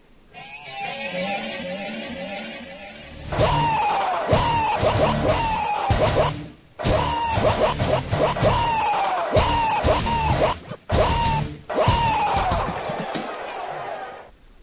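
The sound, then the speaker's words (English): Loud, strained goat screams burst out again and again over a pounding beat, each harsh bleat cutting in raw, after a softer wavering opening. “If any of that goat scream thing.”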